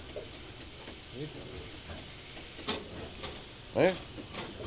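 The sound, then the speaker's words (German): Steam hisses steadily from steam locomotive 44 462, hauling train 64442 on the last steam run from Kreinsen to Ottbergen, Germany: a broad rushing noise punctuated by a few sharper bursts, with one louder, tonal gush near the end. “Also dies war die letzte Fahrt mit der Dampflok von Kreinsen nach Ottbergen.”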